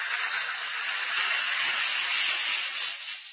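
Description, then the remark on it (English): A steady fizzing hiss of one or two Alka-Seltzer tablets dissolving in a glass of water, a dense crackle of bubbles holding even and unbroken for a few seconds with no one talking. “Just drop one or two Alka-Seltzer tablets into a glass of water like this. Listen to it fizz.”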